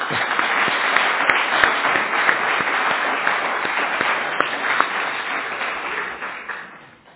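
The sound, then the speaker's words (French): A church audience breaks into applause for Faneva and Juliette, thanking them for their work. It is a dense, steady wash of many hands clapping together that holds for several seconds before tapering off at the end. No one speaks over it. “Je propose qu'on les applaudisse, même si elles sont pas là.”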